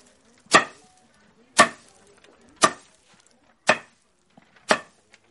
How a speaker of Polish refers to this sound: Tutaj mamy snopki, takie coś urządzenie, które się nazywało cepem, no powiedzmy prosto jak budowa cepa, nie? To się składało bijak, dzierżak, a te łączenia to się nazywała kapica tak zwana. Pokażę jak to się robiło.